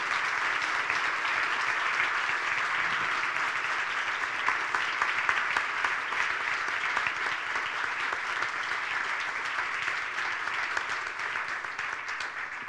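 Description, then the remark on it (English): A crowd at an evening Citizens League event claps for the guests, steadily throughout, a dense, even wash of many hands at a sustained loud level with no pauses and no voices standing out. “Can we give a big round of applause for all of our guests here tonight?”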